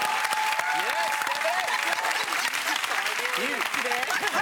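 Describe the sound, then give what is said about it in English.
An audience applauds steadily for several seconds, a dense, bright wash of clapping with scattered cheers and voices rising through it. “Clapped the hell out of that.”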